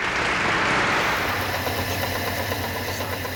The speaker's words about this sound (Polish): Odgłos przędzalni, bo o tym będziemy za chwilę rozmawiać. Myślałem, że odgłos remontu.